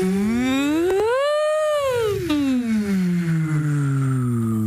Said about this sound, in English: Yeah, then we have to do the woo lip buzz glide. These are the technical terms. These all sound like dance moves. Yeah, so this is the So your lips are kind of buzzing, very tightly pursed lips. Please, please join in your cars.